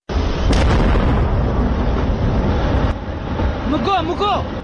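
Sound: gunpowder blast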